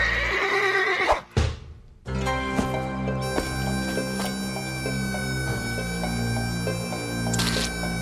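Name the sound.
horse neighing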